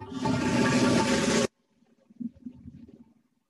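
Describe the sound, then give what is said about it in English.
A loud, rushing toilet flush sound effect roars for about a second and a half, then cuts off abruptly, leaving quiet gurgling and trickling water sounds in the bowl. “Malcolm Brown, you are welcome to Flushtown. To be flushed.”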